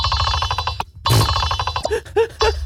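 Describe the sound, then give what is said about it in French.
Underwater recording of a clownfish: rapid trains of clicking pulses and short, nasal, chirping calls repeat over a steady low rumble, with no voices. “Un poisson clown.”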